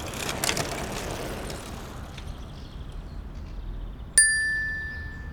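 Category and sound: vehicle, bicycle bell ringing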